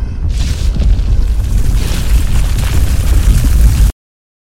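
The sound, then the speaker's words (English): A loud, deep rumbling tremor shakes through an underground chamber, a continuous low roar with crackling, rattling debris for about four seconds before cutting off abruptly. No one speaks. “Just before the tremor shook the chamber, Mr.”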